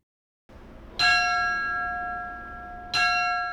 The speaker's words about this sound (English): That's firefighter Tommy Wolf ringing Woodbury's last alarm.